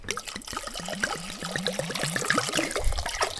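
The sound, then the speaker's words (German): The remaining wine glugs out of a bottle into a pot of mulled wine (Glühwein) in a quick, steady run of gurgles, each rising slightly in pitch, over a bright splashing trickle with no talking. “Und dann geben wir einfach den restlichen Wein dazu.”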